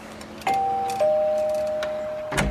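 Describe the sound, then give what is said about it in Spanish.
A small bell at an inn rings twice in quick succession as a traveler enters, each bright chime ringing on with a long, lingering tone, followed by a short clattering knock near the end. No one speaks. “Todo viajero que pasaba por delante de la posada se sorprendía al ver aquel letrero y las campanas y entraba para advertir al posadero del error que había cometido.”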